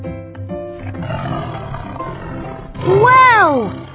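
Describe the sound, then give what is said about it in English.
A tiger lets out a loud, drawn-out roar that swells and then falls in pitch, after several seconds of lower, rougher rumbling. “Big cats! No, they are tigers.”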